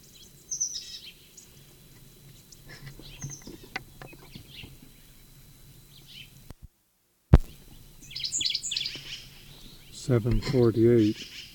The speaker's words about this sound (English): 7:45, probably the sycamore bird. Answer to the sycamore bird from upslope to the southeast.